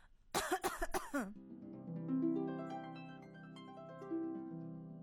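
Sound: cough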